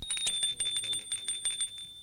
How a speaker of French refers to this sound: L'on sonne à la porte d'entrée.